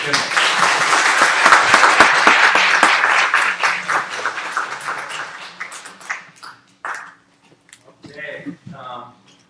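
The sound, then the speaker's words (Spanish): A crowd at a church gathering breaks into loud, dense applause to welcome someone, carrying on for several seconds, then thins out into scattered claps before a voice begins speaking. “Quiero que nos recibamos con un aplauso.”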